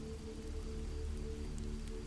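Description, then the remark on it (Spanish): Heavy rain pours down on an empty street in a steady, dense, unbroken hiss, with a low rumbling hum underneath and no voices. “Por la fuerte lluvia y la feria no hay nadie en la calle.”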